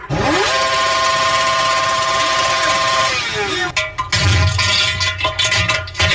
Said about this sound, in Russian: Наконец-то купил себе новый карбюратор и поставил его. Интересно, а какой же будет звук выхлопа? Давайте проверим.